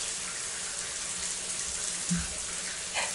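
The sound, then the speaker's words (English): Water runs steadily into a bath, a constant rushing hiss with a couple of small splashes near the end. No one speaks. “Oh, the water feels really good.”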